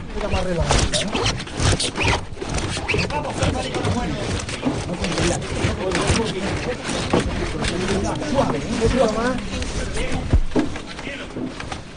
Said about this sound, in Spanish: Le quedan escasos metros para cruzar el dintel de la puerta. Escuchamos el rachear de esa rodilla.